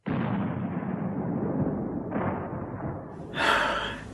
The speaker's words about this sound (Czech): Slyšíš? Děla. Myslím, že v tomhle týdnu budeme muset opustit město.